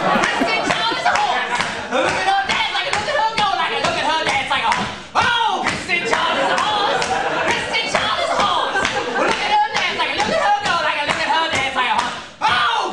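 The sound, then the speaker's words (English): Wild, unhinged singing over steady, rhythmic hand clapping, loud, continuing without a break for the whole stretch with only brief dips, while Kristen Schaal does a horsey dance. “does this maniacal singing and clapping.”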